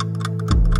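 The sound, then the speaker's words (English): A clock ticks in quick, crisp strikes over a steady low drone, with a deeper bass swell coming in halfway through; no one speaks. “All through the pandemic, the Brexit clock has been running.”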